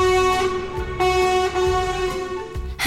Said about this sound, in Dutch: Een vrachtwagen.